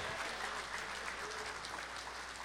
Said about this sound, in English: Somebody clap your hands and praise Jesus.